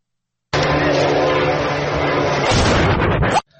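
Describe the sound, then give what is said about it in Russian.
A loud explosion at a factory in Tsimlyansk at four in the morning bursts in suddenly and roars for about three seconds as a harsh, distorted rumble, then cuts off abruptly. A muffled voice may be mixed into the noise. “Четыре часа утра, Цимлянск, что-то взорвалось сильно.”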